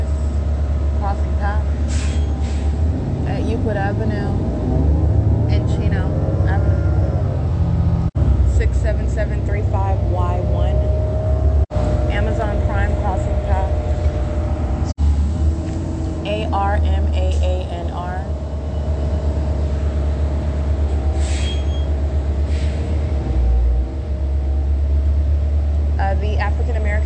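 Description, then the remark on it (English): Steady low engine rumble and road noise from inside a moving Route 83 city bus heading toward the city of Chino, at Riverside Drive and Euclid Avenue, continuous throughout, with voices murmuring and occasional rattles and squeaks over the drone. “This is the Route 83 bus going toward the city of Chino.”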